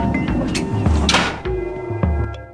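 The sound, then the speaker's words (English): A heavy gate slides open with a steady mechanical rumble and a few sharp clanks and scrapes along the way, fairly loud, with no voices. “A gate slides open and they step through.”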